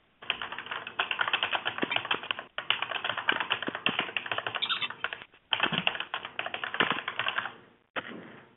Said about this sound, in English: I hear a few people typing, so I might just give that a minute more.